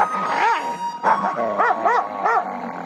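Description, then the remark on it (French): A dog lets out a quick series of high, whining yelps and short barks, about five bursts in under three seconds, with a faint steady hum underneath. “On va s'intéresser aux chiens maintenant, car cette étude chez le chien montre que microbiote et agressivité sont liés.”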